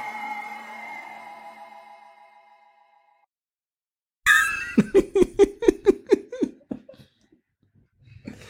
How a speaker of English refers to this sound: Why are you clearing your throat like that, son?